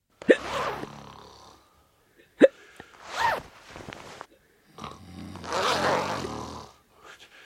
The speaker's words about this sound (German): Ich glaube, da war so ein Hicks beim Schluck auf und ein Schnarchen und so ein Reißverschluss.